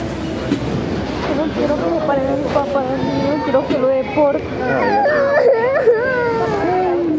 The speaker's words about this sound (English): And something you hear a number of times in this audio, you have children crying for their parents.